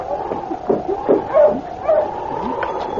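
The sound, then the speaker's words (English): A sled dog team barks and yips in short, scattered bursts, several overlapping, as Sergeant Preston and King, coming down from Dawson, stop with it in front of the trading post at Selkirk, against a steady droning background; no one speaks. “It was the first part of the following week when Sergeant Preston and King, coming down from Dawson, stopped with the dog team in front of the trading post.”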